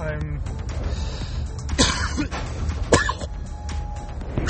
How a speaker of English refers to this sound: I'm such a disgusting pig. Sorry, guys. Sorry you had to listen to me coughing and making all these noises.